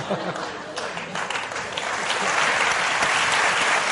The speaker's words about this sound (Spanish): Un aplauso.